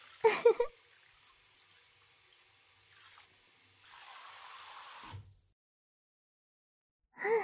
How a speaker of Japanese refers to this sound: シャワーはこれくらいでいいですかね。